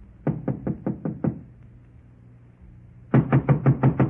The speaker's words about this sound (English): Here it is, Walt. I'll give it a knock.